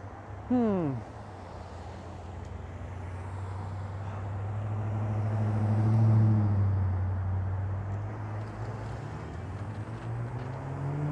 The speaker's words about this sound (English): Although, I don't know, maybe just the sound of cars rolling by is like beautiful, soothing noise.